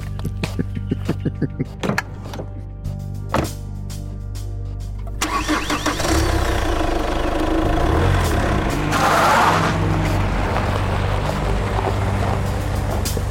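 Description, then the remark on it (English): A car engine cranks with a rapid series of starter clicks, then catches and roars to life, revving hard and loud as the car whips around and peels out onto the road. No voices. “All right, you whip the car around and you peel out and start heading off on the road as quick as you can.”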